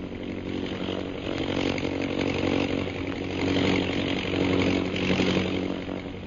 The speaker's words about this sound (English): Holbrook has located our men. He is circling over them. You see his plane?